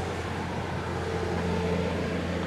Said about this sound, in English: That's really loud. Yeah, it's a big truck.